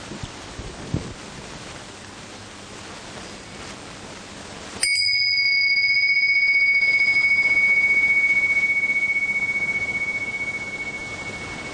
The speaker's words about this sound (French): Alors, je vais faire un petit son de cloche pour démarrer le groupe, pour inviter la conscience à se rassembler.